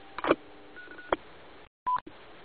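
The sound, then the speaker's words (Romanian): A few short electronic Morse code beeps and tones with abrupt clicks between them, clear, like telegraph signalling, ending after a brief silence. No one speaks. “mi se pare absolut normal să amintesc câte ceva despre cel care a inventat alfabetul Morse, cel mai longeviv cod dintre toate sistemele electronice de codare cunoscute.”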